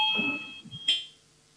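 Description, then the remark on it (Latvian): A parliament voting bell, rung before a vote on a proposal by Culture Minister Puntulis, gives a high, steady electronic tone over low murmuring, then a sharper high ring that quickly fades into quiet. “Lūdzu zvanu, balsosim par otro kultūras ministra Puntuļa priekšlikumu.”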